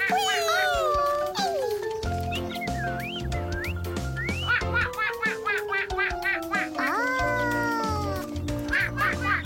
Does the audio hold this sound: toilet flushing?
no